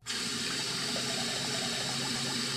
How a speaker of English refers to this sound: Have you a washbowl here in your office? Oh, yes, right here in this closet. Splendid. Now, can we just run a bowl of water? I suppose so.